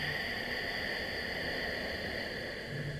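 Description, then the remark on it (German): A long, steady breathy rush of air, a slow exhale through the nose imitating a snorkel, holding an even hiss for about three seconds with no talking. “Dass das Rauschen und dieses Rauschen des Schnorchels ist natürlich nur bei der Ausatmung.”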